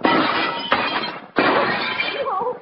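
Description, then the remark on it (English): Glass is smashed in with a loud burst of shattering, followed by two more crashing impacts and a steady spill of jangling, tinkling shards, with a brief faint voice near the end. “Smash it in.”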